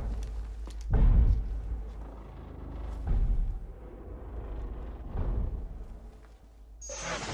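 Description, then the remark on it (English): A heavy metal gate slams down during a full building lockdown, sealing people in, with three deep, booming crashes spaced a couple of seconds apart over a low rumble, followed by a sharp burst of hiss at the end. “The metal gate slammed down around them.”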